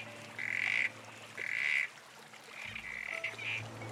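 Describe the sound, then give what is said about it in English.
Several short, buzzy corroboree frog callbacks, answering a call made by people to work out how many frogs are there, repeat at irregular intervals, the first two louder and longer, later ones quicker and fainter, over a steady low background hum with no talking. “it's really difficult to see a small corroboree frog, but they happen to have this feature of liking to call back”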